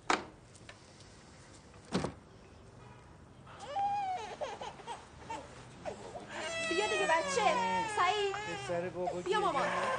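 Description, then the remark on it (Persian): A baby cries, starting with wavering whimpers after a couple of thumps, then building into louder, sustained wailing through the second half. “بیا مامان، اون بابا گریه نکن.”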